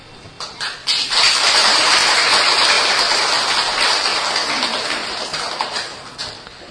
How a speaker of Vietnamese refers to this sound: Và nếu quý vị thấy rằng là cười đó nó có giá trị hạnh phúc mà mình đã từng làm và từng đạt được đó, thì quý vị hãy cười lên và vỗ tay lên thật là to.